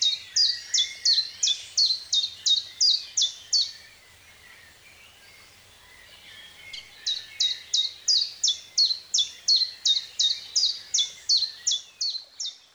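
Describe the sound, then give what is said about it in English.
A chiffchaff sings its repeated two-note song, a steady run of bright, high chip-chap notes in two bursts separated by a brief quiet pause, clear with no voices. “And a chiffchaff, you can hear their call because it sounds just like their name. It's kind of a high chiffchaff, chiffchaff type of sound.”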